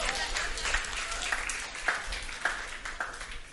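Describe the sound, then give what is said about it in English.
A crowd applauds for themselves after singing a hymn, many hands clapping steadily in a dense, continuous wash with a few sharper individual claps standing out, holding at a moderate level throughout. “Clap for yourself, you know how to sing.”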